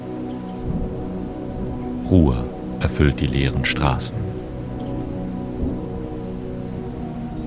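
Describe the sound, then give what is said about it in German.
Steady rain patters in an even, unbroken hiss throughout over a dark city late at night, heard from a narrow upper-floor balcony, while a man's voice speaks a short sentence over it midway through. “Nur das monotone Plätschern gibt den Takt dieser späten Stunden an.”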